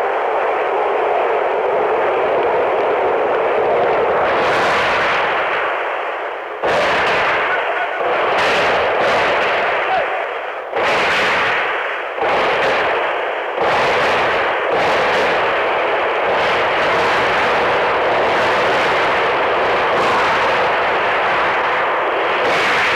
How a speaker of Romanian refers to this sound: Tancuri și mitraliere pe străzi trag în mulțime. Timișoara, 17 decembrie 1989.